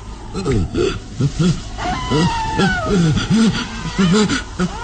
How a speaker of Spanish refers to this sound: Retrocede temeroso. Ha escuchado el aullido cerca del muro que circunda la entrada del castillo.